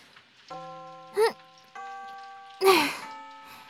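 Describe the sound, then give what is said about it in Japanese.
A school bell chime rings out in two sustained, ringing notes that hang in the air, with a couple of short bursts of a voice speaking over it. “あ、チャイム。もうそんな時間経ってたんだ。”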